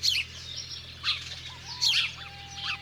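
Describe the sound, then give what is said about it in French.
Sparrows chirp in quick, bright bursts, four scattered flurries of sharp tweets, over a steady low background hum, as two sparrows squabble over a small piece of bread, one chasing the other. No one speaks. “Qu'est-ce qu'ils mangent, les moineaux ?”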